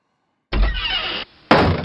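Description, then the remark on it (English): A door bangs shut loudly, followed by a brief pause and a second heavy bang with a rattling, ringing tail. No voices are heard. “This door's getting”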